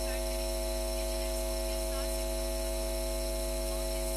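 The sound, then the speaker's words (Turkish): A steady electrical hum from a welding machine in the neighborhood drones on without a break, a low buzzing tone with bright overtones, fairly faint, with no one speaking. “Mahalledeki kaynak...”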